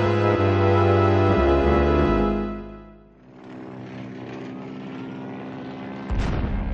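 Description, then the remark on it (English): American bomber planes, heavy propeller aircraft, drone loudly overhead while dropping bombs on Tokyo. A deep sustained roar with strong low harmonics fades and shifts, then swells again with rougher rumbling near the end. “It's American bombers dropping bombs.”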